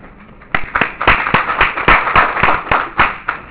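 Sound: audience clapping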